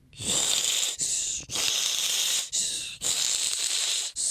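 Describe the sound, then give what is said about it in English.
A voice imitates a bilge pump with loud, breathy hissing whooshes, five sustained pulses broken by brief gaps in a steady chugging rhythm, with no talking. “Okay, so here's a bilge pump.”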